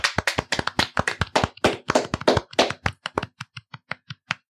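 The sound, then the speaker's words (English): A short burst of applause from a small group: dense, overlapping claps for about three seconds, thinning into a few scattered single claps before stopping. No one speaks. “Can I just ask, can we do a round of applause for this librarian?”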